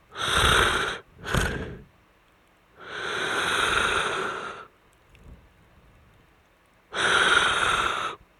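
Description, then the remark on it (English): A voice imitates the loud, raspy snorting breaths of a stranger seated next to the speaker through a movie, breathing rather than sleeping: two quick harsh snorts, a longer drawn-out rasp, a soft pause, then another loud snort, with no talking in between. “The person isn't sleeping, they're breathing. This is how they breathe.”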